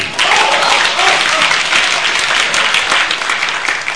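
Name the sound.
audience applause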